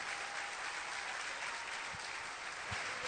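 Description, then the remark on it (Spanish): A church audience claps steadily together in applause to the Lord, a dense, even wash of many hands applauding at once with no voices rising above it, holding the same moderate level throughout. “Si usted lo cree, dele un aplauso al Señor.”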